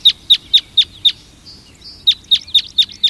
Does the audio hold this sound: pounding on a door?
no